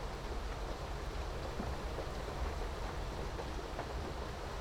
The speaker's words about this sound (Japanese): 今もこうして雨の音の中、布団にくるまってると森の中にいるみたい。